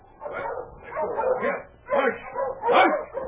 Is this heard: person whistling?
no